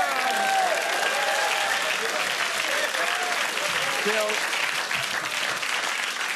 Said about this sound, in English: Bill, that's a you know, politicians don't always get big applauses. That was pretty good, mate. But yeah, you had a little man telling him to clap, though.